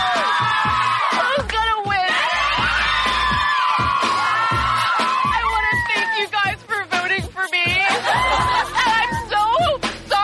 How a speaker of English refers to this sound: Just cheering like little schoolgirls.